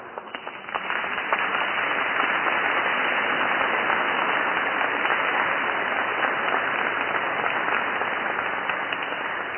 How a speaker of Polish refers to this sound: Myślę, że klaszcze nie tylko wierni w Świątyni Brzeskiej, ale myślę, że tam w całej Polsce przy odbiornikach radiowych i telewizyjnych.